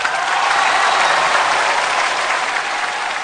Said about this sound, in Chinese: 谢谢各位啊，你们这一鼓掌我就知道了啊。